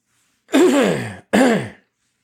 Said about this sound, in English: Sorry for the cough.